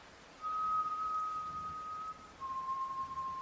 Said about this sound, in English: Someone was whistling a slow, soft tune.